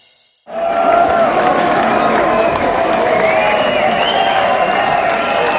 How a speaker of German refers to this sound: Der Abschlussapplaus.